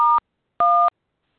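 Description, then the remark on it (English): Two loud, clean phone keypad beeps from someone pressing keys on their phone, dual-tone DTMF presses, one short and one slightly longer, separated by a brief pause, with no talking. “Yeah, someone is beeping on their phone.”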